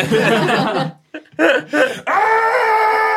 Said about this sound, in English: I immediately scream.